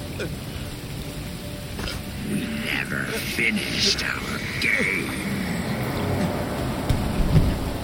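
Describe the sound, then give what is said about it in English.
A thunderstorm with steady rain hissing and low thunder rumbling beneath it as a large bolt of lightning streaks across the sky and down to a lake, fairly loud and continuous, with a voice faintly audible over the storm. “A large bolt of lightning began to streak across the sky and down to the lake as the body of James took Alan by the neck.”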